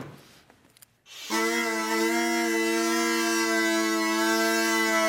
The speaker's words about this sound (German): Das sind so Elektroisolierrohre aus dem Baumarkt. Und da haben wir so von Schutzhüllen, von wo man Papier reinmacht. Das sind die Stimmzungen. Das ist jetzt eigentlich aber nur der Begleitton, der Bordun, sagt man ja.